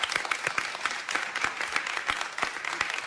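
Steady applause from a small group, a dense patter of overlapping claps with sharp individual hand strikes standing out, holding at an even, moderate loudness throughout.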